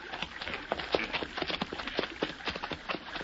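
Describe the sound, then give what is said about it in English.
Horse hooves clip-clop in a loose, uneven rhythm, a steady run of sharp knocks over a soft hiss of background noise, with no voices; a saddled horse in the brush, its reins tangled. “Golly, I thought at first it was a bear, but look, over there in the brush. Horse standing there.”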